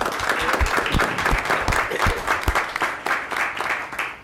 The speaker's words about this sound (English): And it took a three years of training, and I want to give her recognition and a round of applause.